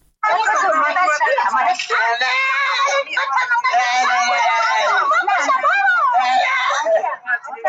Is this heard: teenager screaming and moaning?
yes